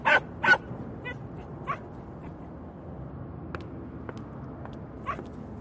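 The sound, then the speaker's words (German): A person imitates a cat's meow: two loud mewing calls right at the start, followed by a few fainter, scattered squeaks and mews over a quiet background. “ich wusste gar nicht, dass du so gut miauen kannst.”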